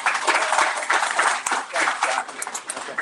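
A crowd applauds a guest from Waterworks Marine steadily for a few seconds, a dense wash of overlapping claps at fairly even loudness with scattered sharper individual claps standing out.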